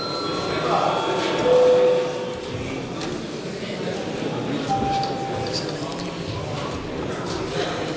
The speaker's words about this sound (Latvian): Lūdzu zvanu, lūdzu deputātu klātbūtnes reģistrācijas režīmu.